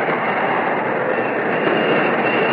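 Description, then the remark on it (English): A train's emergency air brakes, pulled by someone aboard, grind and hiss in a loud, steady roar of rail noise that fills the whole stretch without letting up, with no voices. “Brake. Somebody pull the air brake.”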